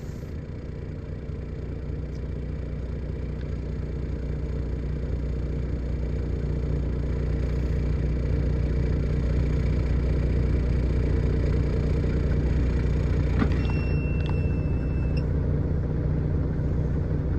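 A truck engine idles steadily, a constant low rumble that holds level for the whole stretch, with a faint brief clank and a thin whine partway through.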